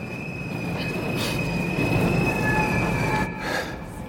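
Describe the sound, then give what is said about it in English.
A subway train grinds through a Brooklyn subway station, its wheels letting out a sustained high-pitched metallic squeal over a loud, steady rumble that eases slightly near the end. “Orpheus NYC meets me at a Brooklyn subway station.”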